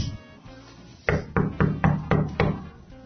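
Six evenly spaced knocks on a door, fairly loud, tapping out a steady rhythm with no talking.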